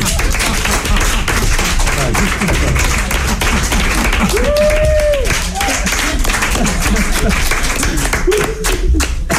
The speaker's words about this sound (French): Vous avez été super, on peut vous applaudir.